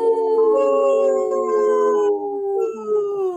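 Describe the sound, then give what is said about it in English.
Several people, the park board among them, howl together like a wolf pack, long overlapping wails that slowly slide downward in pitch, loud, continuing steadily for a few seconds with no speech. “Hey, the park board did have no problem joining in on the howl.”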